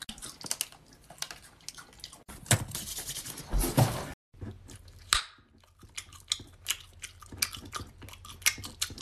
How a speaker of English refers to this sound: Can you chew with your mouth closed? Shit. No, this is how I like to chew my gum. You don't like it? You can move. It's so loud. Are you a fucking cow?